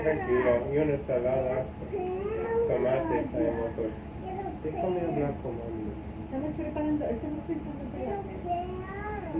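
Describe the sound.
A child's voice repeatedly imitates a cat's meow in a sing-song rhythm, the mewing calls running steady for the whole stretch.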